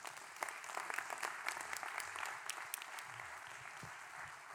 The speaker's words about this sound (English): Give the Lord a hand clap, man.